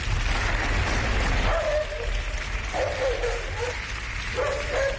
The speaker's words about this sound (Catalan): Aquest home, que els aplaudiments van parant com de cop, perquè sembla ser que s'ha colat un gos. S'ha colat un gos, sí.